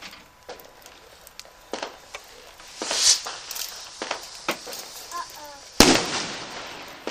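Bonfire night fireworks crackle and pop repeatedly over several seconds, with a few sharper, louder bangs standing out among scattered smaller bursts, right overhead.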